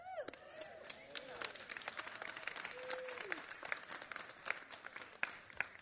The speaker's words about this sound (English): I'm going to assume that everybody was applauding.